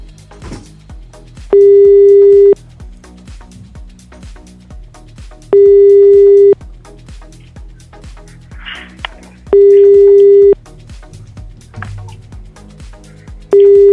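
A telephone busy signal from a call that the person being called is rejecting repeats four times: steady one-second electronic tones, each followed by a few seconds of silence, heard over a low murmur of background sound.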